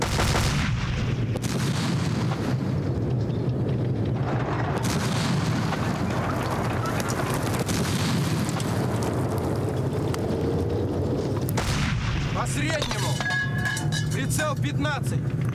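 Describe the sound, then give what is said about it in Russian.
Artillery cannon fire booms amid a loud, continuous battle rumble, with heavy blasts breaking out around a few seconds apart and voices mixed into the din. “Орудие по замыкающим. Прицел 8. Упреждение полфигуры.”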